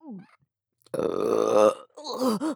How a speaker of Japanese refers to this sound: あれは酒を飲んだだけで。 またゲップが。